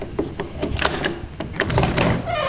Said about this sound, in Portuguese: Tão batendo a porta aí? Pera aí que eu vou abrir aqui, rapidão.